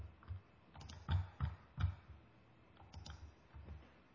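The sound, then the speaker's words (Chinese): Irregular clacking of keys on a computer keyboard, a scattered run of quick soft taps with a few heavier strokes, fairly quiet, with no voices. “这个不要在上面乱打字啊。”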